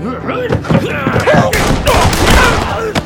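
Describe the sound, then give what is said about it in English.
A burst of gunfire, several sharp, loud shots spaced across a few seconds, fired while voices shout over them. “All four men went down with fatal gunshot wounds.”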